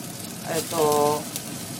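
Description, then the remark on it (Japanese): Shrimp coated with egg white, salt and potato starch frying in plenty of hot oil until just the surface cooks, a steady hiss and crackle throughout, with a brief murmured voice rising over the sizzle midway. “エビを結構たっぷりの油で、”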